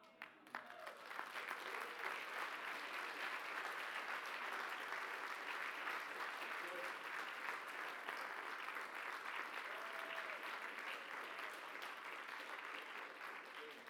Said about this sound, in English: Church, I want you to clap and shout. I'm telling your story.